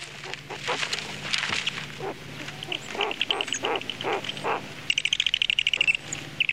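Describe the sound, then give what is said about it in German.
Noisy, excited chattering and squeaking of young owls in a nest in an old pine tree at the Kinderhaus Violetta in Ludwigsburg-Neckarweingen, at feeding time as a parent owl returns, with rapid repeated calls and a burst of fast, high-pitched trilling near the end, fairly loud. “Wenn Mama oder Papa Eule zurück ins Nest kommen, dann ist Futterzeit und das heißt natürlich, im Nest wird es laut.”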